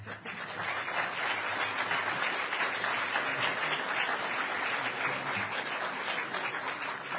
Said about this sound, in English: So this is the 9th Hackers on Planet Earth conference. And huge round of applause.